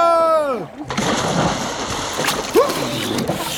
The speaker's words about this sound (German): Boah, ist das herrlich! Wie ein Fisch im Wasser zu schwimmen und sich mit dem Rüssel das kühle Nass über den Rücken laufen zu lassen. Und zu tauchen!